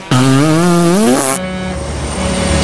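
A loud truck engine revs up with a rising, throaty whine for about a second, then drops abruptly into a steadier, lower idle rumble.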